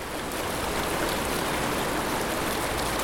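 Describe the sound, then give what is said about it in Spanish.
Steady rushing of the Río Verde, a flowing river on the Costa Chica of Oaxaca, Mexico, a dense continuous wash of water with no pauses, even in loudness throughout, with no voices. “El Río Verde. Yo soy la voz del Río Verde.”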